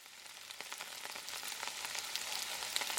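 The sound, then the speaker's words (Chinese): Steady rain patters down in a dense, crackling hiss, with scattered sharper drops ticking through the even wash of sound. No voices are heard. “哎呀，下雨了， 我和你一起撑伞吧。”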